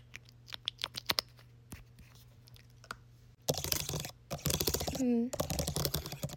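A few scattered, sharp clicks on a computer keyboard give way to a dense rattling clatter as a lip gloss tube is dragged across the keys, with a brief vocal sound midway.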